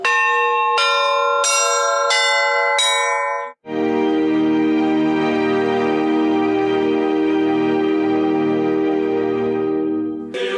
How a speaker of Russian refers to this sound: А дети могли попробовать свои силы в качестве звонарей. Им показали мастер-класс по колокольному звону в Благовещенской церкви, сопредельной Спасскому кафедральному собору.